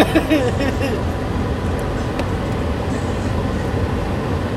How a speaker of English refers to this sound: We're chilling in the car.